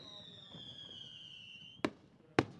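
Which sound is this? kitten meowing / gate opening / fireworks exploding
fireworks exploding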